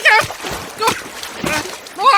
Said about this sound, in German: Ich höre ihn, aber wo ist er? Ich sehe ihn nicht. Wow! Hilfe! Schon wieder ein Spritzer!